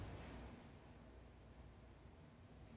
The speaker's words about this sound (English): Do you all hear that cricket? Yeah. Perfect. Yeah, ladies and gentlemen, that's not a sound insert. Hopefully you're using good headphones to listen to this, because there's a legit cricket. There it is. And that was perfect.